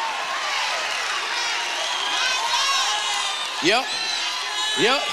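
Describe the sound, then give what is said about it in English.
A large church audience of worshippers shouts and cheers together in a dense, sustained roar, with individual whoops rising sharply above the din near the end. “This is where the church shouts.”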